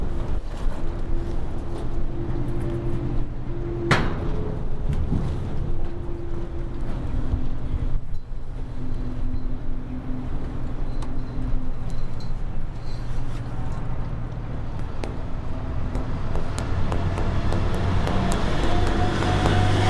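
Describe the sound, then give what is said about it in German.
A car engine idles steadily throughout, a continuous low droning hum with faint tonal whine, joined by a few brief knocks and rustles but no voices. “Steht da oben ein Auto oder so, das Motor anhat?”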